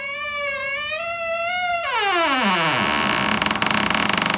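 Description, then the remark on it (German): A creaky door-opening sound effect played as a sound file on a PC: a sustained, wavering squeal that bends sharply downward into a low groaning creak, ending in a buzzy, rattling tail. No one speaks over it. “Ihr glaubt doch nicht ernsthaft, dass ich hier irgendeine Tür geöffnet habe.”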